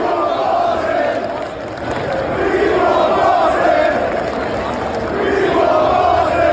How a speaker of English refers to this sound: Knicks get the win, and I look out, and there we are on 7th Avenue, and there's the crowd, and everybody's just having a great time. And social media now, everybody's got their cameras out. and all that stuff. And it just sounded like this.